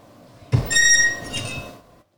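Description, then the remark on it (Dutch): A door creaks open: a soft knock of the latch, then a drawn-out, high, squealing creak lasting about a second before fading, with no voices. It is the door of grandmother's house in the Little Red Riding Hood tale, opened by pulling its string. “Trek maar aan het touwtje liever, dan gaat de deur vanzelf open.”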